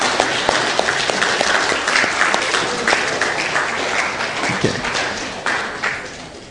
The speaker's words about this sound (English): And while they're passing those out, let's give a round of applause to our mothers, all right?